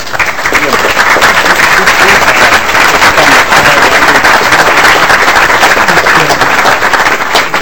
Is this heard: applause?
yes